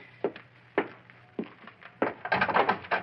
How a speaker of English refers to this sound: I got to bust down this lousy door.